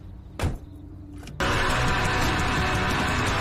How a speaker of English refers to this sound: She gets in a car.